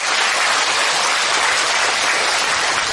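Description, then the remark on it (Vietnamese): Steady, dense applause from a sizable audience, many hands clapping at once in a continuous wash of sound that holds at an even, fairly loud level throughout, with no voices. “Xin cho một tràng pháo tay để tri ân tất cả.”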